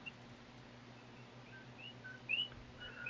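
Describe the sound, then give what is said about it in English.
Scattered high chirps and short whistled calls of wild birds, faint against a steady low hum, with one brighter call standing out near the end. “You can hear the birds in the background.”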